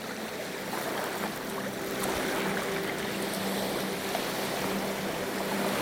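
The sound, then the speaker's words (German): Soft, steady wash of water, a continuous gentle lapping and fizzing with small splashes, mild waves at the water's edge on a sandy beach, with no voices. “Die sanften Wellen umspielen zart deine Knöchel und verwischen deine Fußspuren.”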